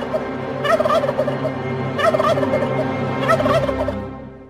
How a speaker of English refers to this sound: That is our friend, the beady-eyed bird. Good luck to all you turkey hunters out there.